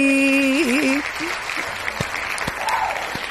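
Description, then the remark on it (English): A minister on a Radio Pulpit broadcast gives a few sharp, spaced hand claps over a busy, murmuring background, following a brief wavering vocal tone at the start. “… is also clapping.”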